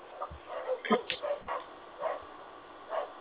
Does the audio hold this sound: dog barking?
yes